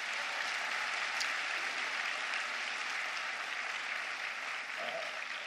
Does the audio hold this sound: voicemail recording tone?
no